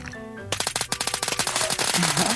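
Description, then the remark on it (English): A short tonal intro gives way to a loud, sustained burst of rapid automatic rifle fire, roughly a dozen sharp cracks per second, continuing to the end with a faint wavering tone underneath. “Special AK. Bite-sized assault rifles.”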